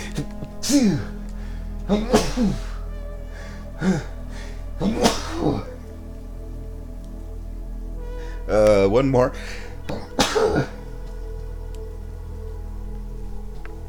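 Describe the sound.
A run of forceful sneezes, roughly six bursts spaced a second or two apart, with a short spoken remark squeezed in between them.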